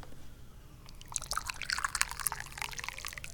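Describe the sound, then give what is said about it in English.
Weak tea, from leaves on their eighth infusion, pouring into a cup: a steady, bubbly trickle of liquid that starts about a second in and keeps splashing and gurgling, with no talking over it. “Pour it into the cup, and let's give it a drink.”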